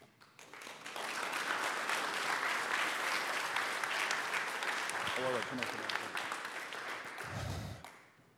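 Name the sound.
audience applause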